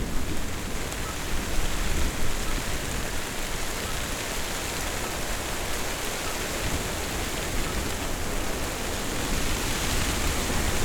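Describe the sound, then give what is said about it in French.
Heavy rain pours down in a dense, continuous roar, spread evenly across the whole stretch with only slight swells in loudness and no voices. “La pluie redouble.”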